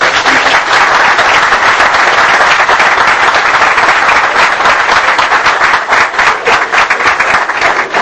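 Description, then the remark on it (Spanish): An audience applauds steadily, a dense, loud wash of many hands clapping that holds for the whole stretch, with individual claps flickering through as it thins slightly near the end. “Y yo pido un aplauso por él, empezando por mi mujer, por todo.”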